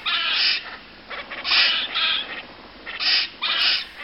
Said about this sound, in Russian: Вот такими, почти птичьими голосами поссумы перекрикиваются друг с другом.